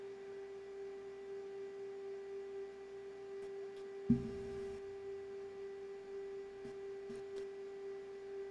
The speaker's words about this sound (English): So you receiving a fax? The printer is speaking.